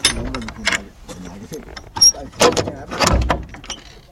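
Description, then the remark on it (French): The old metal door of a small sheet-metal shack creaks and rattles open with a short high squeal, followed by clanking and scraping, while a man talks over it. “Ah, c'est une petite baraque en tôle, avec une vieille porte.”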